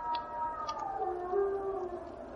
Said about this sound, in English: A wolf? No, a wild dog.